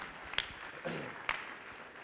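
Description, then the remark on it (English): A group of people at a Bible teaching clap their hands for a few seconds as they are being seated, a soft, steady patter with a couple of sharper individual claps popping out above the rest. “Please close your Bibles and clap your hands for a few seconds here as you're being seated.”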